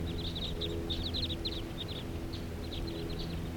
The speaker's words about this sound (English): Flock of about 8 birds, and they're settling down here now.